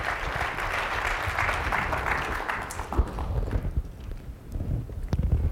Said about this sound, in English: That's a good time to give the Lord a good clap offering right there.